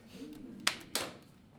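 Two sharp, loud knocks on a table, roughly a third of a second apart, each with a crisp attack and quick decay over a faint low background murmur.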